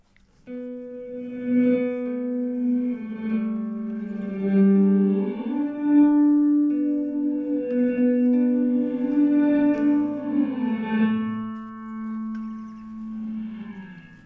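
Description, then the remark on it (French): Sustained guitar notes from a reverb effects pedal in reverse mode swell in gradually, each one blooming up from silence with a backwards, reversed reverb wash, played slowly in a smooth melodic line with no voices. “Étonnant dans une reverb que l'entende du reverse.”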